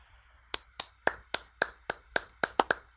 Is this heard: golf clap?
yes